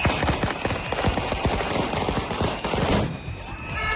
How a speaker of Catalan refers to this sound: A Sabadell, per exemple. Ara mateix hi ha una manifestació a la Rambla després que han protestat davant la seu territorial del Departament d'Educació amb llançaments d'ous i petards.